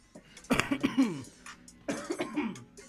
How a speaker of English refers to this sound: Mind them coughing.